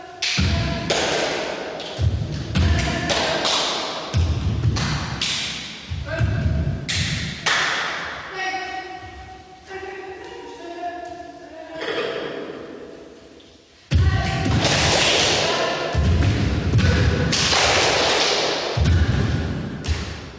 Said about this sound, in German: Dann klatscht sie den Rhythmus. Erst jeden Schlag, dann nur jeden zweiten. Wir machen es ihr nach. Nach und nach entsteht eine Choreografie aus Klatschen und Stampfen und vor allem aus Pausen.